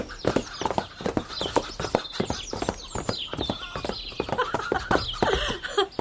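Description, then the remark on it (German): Horse hooves clip-clop in a quick, steady trotting rhythm, fairly loud, as a horse runs a lap of honour, continuing for several seconds with some faint background sounds mixed in. “So ist's brav, mein Pferdchen. Komm, gleich eine Ehrenrunde.”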